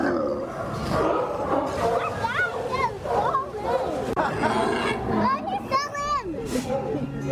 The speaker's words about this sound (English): Been listening to Sea Lions at the Wharf, just some of our Santa Cruz critters at K-Squid 90.7 FM Community Radio.